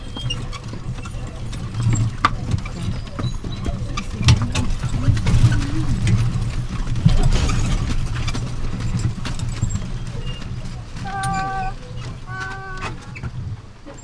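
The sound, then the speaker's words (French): A horse's hooves clip-clop along steadily over a low, continuous rumble, with a brief tonal, harmonic sound rising near the end. No one speaks. “Pas par la route. À cheval !”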